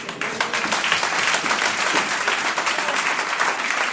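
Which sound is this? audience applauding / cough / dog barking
audience applauding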